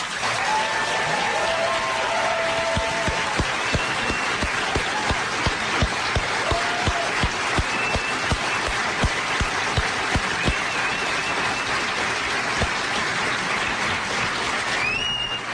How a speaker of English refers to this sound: Okay, so I know there were some of you who felt you didn't applaud enough for Daniel's amazing speech. Here he is again.